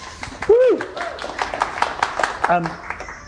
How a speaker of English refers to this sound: I really appreciate that. Just going to give you a round of applause for that one.